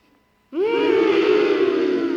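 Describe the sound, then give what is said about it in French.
A giraffe's grunt: after a brief silence, a loud, buzzy, harmonic groan starts abruptly, slides up slightly in pitch, then holds steady for nearly two seconds with no one talking. “En fait, les girafes font un grognement. Quand elles ont peur.”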